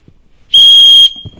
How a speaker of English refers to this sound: Blowing the whistle. You know what the whistle is saying? You're not operating by faith.